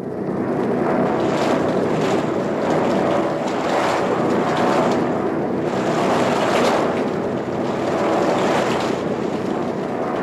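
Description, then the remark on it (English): A steady, loud engine drone fills the space without a break, thick with rushing wind-like noise, like the inside of a multi-engine propeller aircraft in flight as it goes into a cloud. “So one of these damned engines don't crack. We're going into the cloud now.”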